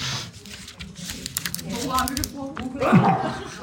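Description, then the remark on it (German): A single sneeze bursts out near the end, a sharp breathy blast with a falling voiced tail, over a backdrop of soft clicking like typing and some faint talk. “Gesundheit.”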